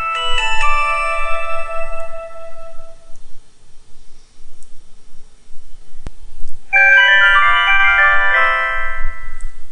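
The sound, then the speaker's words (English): Electronic beeps from a Verizon Wireless cell phone shutting down after the end button is pressed: a short run of bright synthetic tones, a few seconds of quiet, then another busier chime sequence, fairly loud with no talking. “It makes these little beep sounds, and your phone shuts down.”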